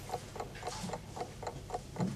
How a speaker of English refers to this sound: Even the clock. Sir? The clock. Is it the original? Sir, there is no clock. No, but I can hear it. Listen. No, listen.